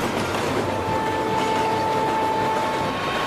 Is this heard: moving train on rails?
yes